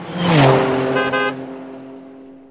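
A car engine revs up and rumbles past, with a short honk of the horn partway through before the engine sound fades.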